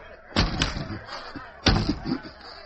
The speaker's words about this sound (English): Fairchild turned his back to the window and with his bound hands beat on the glass.